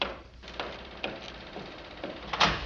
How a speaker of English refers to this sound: Sorry to keep knocking, but I knew you were here.